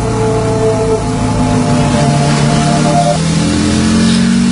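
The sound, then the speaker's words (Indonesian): A motorcycle engine carrying two riders revs loudly and steadily on a trip toward Central Java, Indonesia, its droning pitch shifting up and down as it accelerates, with no voices over the steady mechanical roar. “Perjalanan menuju Jawa Tengah dengan menggunakan sepeda motor.”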